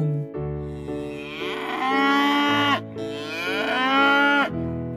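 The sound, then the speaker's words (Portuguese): An ox lets out two long, loud bellowing moos in close succession, each swelling in pitch and strength before breaking off, with no talking. “O boi, interessado, respondeu: eu quero! Eu quero!”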